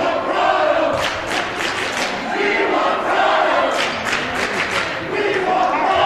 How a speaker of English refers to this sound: Can't tell what the student section's shouting, but they want something.